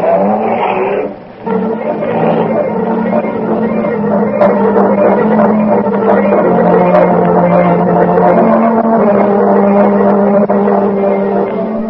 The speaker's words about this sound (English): Off through the park sped the police car after the murdered horseman.